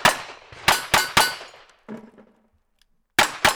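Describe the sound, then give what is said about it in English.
Sharp gunshots ring off steel targets at a cowboy action shooting event in Hamilton, a quick burst of four metallic clangs, a pause with a fainter ringing hit, then two more cracks close together. No one speaks. “At each stage, they shot at steel targets and acted out scenes based on stories from Montana mining towns.”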